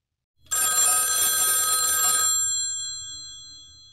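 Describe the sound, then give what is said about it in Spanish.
A telephone bell rings loudly in one sustained burst before the call is answered, a bright metallic jangle that stops abruptly and leaves a fading ringing tone behind. “Emilia y Roberto hablan por teléfono.”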